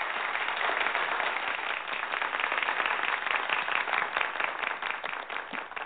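An audience breaks into steady applause, a dense wash of many hands clapping at once that stays fairly loud and even for about six seconds, with no voices over it.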